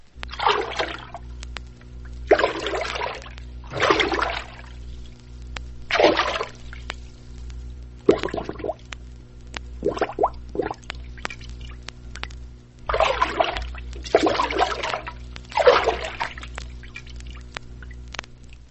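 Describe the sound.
A paddle plunged about 8 inches into lake or river water is moved briskly to and fro to imitate a female moose walking in the water, making about nine loud swishing surges in an uneven rhythm, with no voices.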